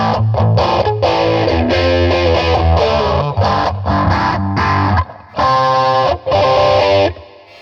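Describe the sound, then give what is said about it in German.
Loud, dense distorted sound with a crunchy, saturated old-school character, playing in choppy bursts with brief gaps and a short dropout near the end, no voices present. “Klingt komisch. Ein bisschen Oldschool-Verzerrung.”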